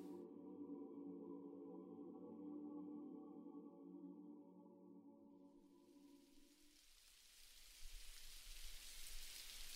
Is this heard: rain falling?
yes